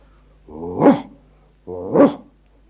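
A dog barks twice, each bark a drawn-out, rising-then-falling woof, fairly loud, separated by about a second of quiet.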